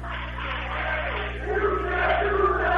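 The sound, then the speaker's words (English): Dawson Boyd students in a crowd clap their hands at a basketball game amid a dense wash of cheering and voices that swells a bit louder toward the end. “And the Dawson Boyd students clapping their hands.”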